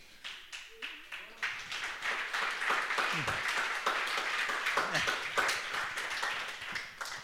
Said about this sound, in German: Also man muss ja sagen, dieser Applaus, der muss ja Gott gelten, weil ja.